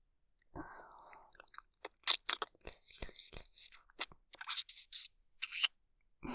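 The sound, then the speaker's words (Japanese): Wet mouth sounds for ASMR licking of the eyelids: soft smacks, clicks and slurping bursts in an uneven rhythm, crisp and moderately loud, with no talking. “まぶたも舐めますよ。”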